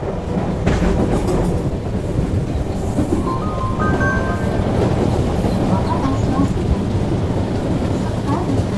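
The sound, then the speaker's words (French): A commuter train (RER) rumbles steadily along the rails with a dense, constant low roar, and a brief thin metallic whine rises partway through. “Fondue au noir, la caméra se fixe sur Damien Bonnard dans le RER avec le petit Issa.”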